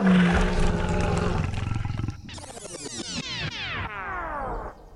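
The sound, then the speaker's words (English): A loud lion roar in a video game rumbles deep and growling, then breaks into a series of harsh rising snarls that fade at the end, with no voices present. “That's a lion.”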